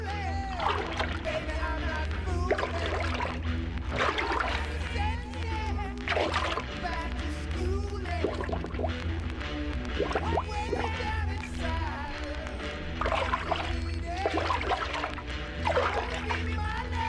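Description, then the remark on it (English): Repeated, steady sloshing and splashing of water, made by emptying a horn into a lake or river at a varying rate to imitate a cow moose wading through water, with voice-like sounds mixed in throughout. “All these sounds, well performed and in proper sequence, give a perfect imitation of a cow moose moving in the water.”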